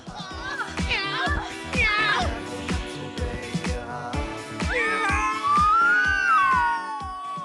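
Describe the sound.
A person imitates a cat, letting out several drawn-out, wavering meows, with scattered knocks and thumps sounding underneath.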